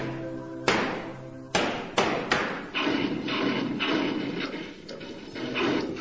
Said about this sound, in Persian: امین از روی میز کامپیوترش یه سوزن تهگرد بر میداره و شروع میکنه به ترکوندن بادکنک ها.